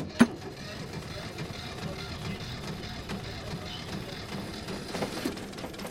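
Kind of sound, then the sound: vehicle, boat engine starting up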